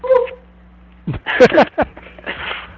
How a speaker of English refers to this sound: Okay. Sound like someone going, oh. And then it was a dog, quick... though. It sounded like a dog.